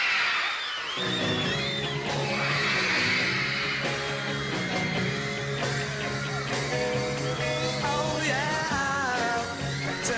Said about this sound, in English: So there they are, and that screaming. I can't tell if Ed Sullivan was trying to say more, and the audience screaming just drowned him out there